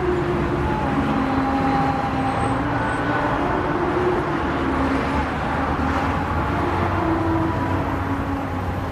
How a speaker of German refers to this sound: Im neuen Zentrum von Astana, der Hauptstadt von Kasachstan, herrscht dichter Autoverkehr.